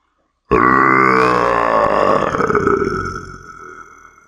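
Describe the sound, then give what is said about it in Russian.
A huge monster, just hit by gunfire in the snow, lets out one long, deep, guttural roar of rage and pain, loud and rasping, held for about four seconds before it slowly trails off. No one speaks. “Рев был такой силы, что меня едва не сбило с ног звуковой волной.”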